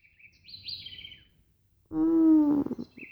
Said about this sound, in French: Non, il est trop tôt pour se lever. Laisse-moi dormir encore un peu, petit oiseau. Il est 4 h du matin.